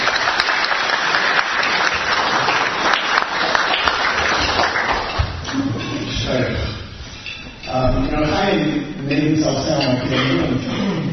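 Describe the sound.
An audience at a shiur bursts into steady, loud applause for a man, a dense wash of clapping lasting about five seconds, then fading as a man begins speaking over the last scattered claps.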